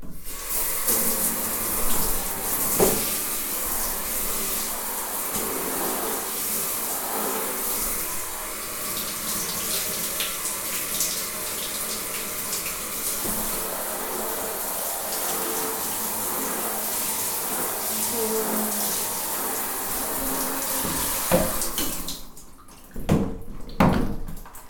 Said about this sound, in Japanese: おしっこの匂いがします流していくね。